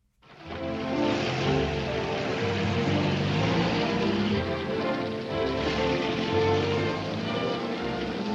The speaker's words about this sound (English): The rain is sluicing down. Gene Kelly goes right into it.